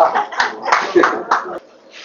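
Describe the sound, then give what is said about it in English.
An audience claps for Jesus in a dense, steady burst with voices mixed in, then the applause drops away abruptly after about a second and a half, leaving a faint murmur. “They clap for you.”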